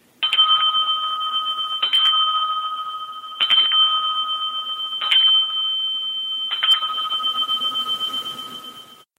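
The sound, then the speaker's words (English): A small bell, the bell of Mark Margolis, who played Tio on Breaking Bad, is dinged five times at a steady, unhurried pace, each bright strike ringing on and overlapping the next. It's clear, with no voices. “Media, I'm going to have to ding my bell.”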